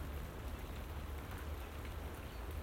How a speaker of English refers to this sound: And it's raining.